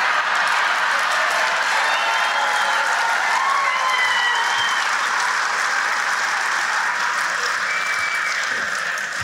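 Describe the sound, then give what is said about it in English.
A large audience applauds steadily, the dense clapping loud, holding at full strength for about nine seconds with faint cheers mixed in before easing slightly at the end. “So they probably, that they'll applaud because they're pigs.”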